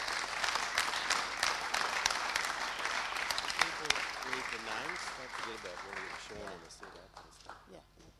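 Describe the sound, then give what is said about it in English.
An audience at a morning service claps steadily for the worship team in a dense, sustained round of applause that gradually thins out and fades, while a voice begins talking beneath it toward the end. “So let's just give the worship team a round of applause.”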